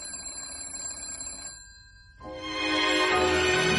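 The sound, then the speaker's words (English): A telephone bell rings with a bright metallic trill, pauses briefly, then rings again louder and fuller, with no voices. “The phone's ringing. Let it ring.”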